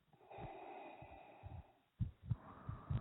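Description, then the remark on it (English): Heavy, raspy breathing from a male caller on a show, with no words: a long drawn breath followed by several loud, snorting puffs in an uneven rhythm, low and rough in tone. “I got the heavy breather back.”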